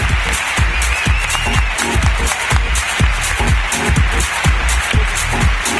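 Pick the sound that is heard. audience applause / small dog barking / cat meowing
audience applause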